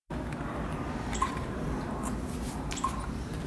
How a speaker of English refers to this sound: So, I mean, I was sure we had recorded something crazy. And then I had to be the one to disappoint her. It's the sound of our video camera.